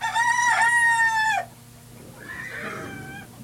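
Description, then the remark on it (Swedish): A farm rooster crows loudly in the evening dark in one long, strained call that cuts off abruptly, followed by a quieter crow with a wavering pitch. “Rätt ut i mörkret gal Ingstarbotuppen.”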